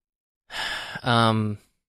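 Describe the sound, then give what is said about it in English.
A single yawn: a breathy, drawn-in breath followed by a short voiced, groaning exhale that trails off, with no speech around it. “Oh, I can't stop yawning.”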